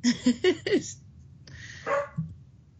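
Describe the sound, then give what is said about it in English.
A dog barks four times in quick succession, then lets out a longer, whinier bark after a short pause. The barks are fairly loud, with no talking. “The dog's gonna answer the question for you.”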